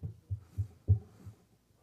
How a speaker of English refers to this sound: And a couple hours later, I got the call from my wife. She said they found a heartbeat.